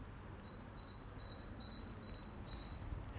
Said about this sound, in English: I don't even know which birds it are. It's not a wren, it's not a robin.